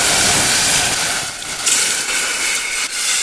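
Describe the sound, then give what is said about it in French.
10 centilitres of dry cider and a tablespoon of calvados flambéing in a small saucepan taken off the heat, with a loud, steady rushing hiss of flame that briefly dips and swells and no voices. “Faites chauffer les 10 centilitres de cidre brut et la cuillère à soupe de calvados dans une petite casserole et retirez du feu pour les flamber.”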